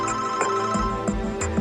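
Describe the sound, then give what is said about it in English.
A cell phone ringtone plays a bright, repeating electronic melody of short tonal notes, steady and fairly loud, heard on its own with no talking. “And he called her, and he had her on the phone 24 hours a day.”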